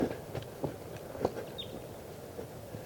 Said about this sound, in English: Step.